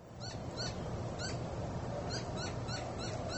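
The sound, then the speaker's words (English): Whitetail and Inca doves coo repeatedly at the first rays of sun in the Sonoran Desert, Arizona, in short, evenly spaced phrases against a constant hiss of open-air background noise, no voices present. “Whitetail and Inca doves greet the first rays of sun in the Sonoran Desert.”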